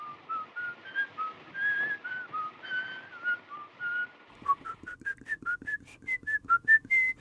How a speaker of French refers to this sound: Très tôt, Fritz Lang par exemple, et qui dans M le Maudit utilise une mélodie sifflée par le tueur pour qu'on l'identifie. Et il est donc identifié au son. On ne voit pas Peter Lorre, pas tout de suite. On entend son sifflement.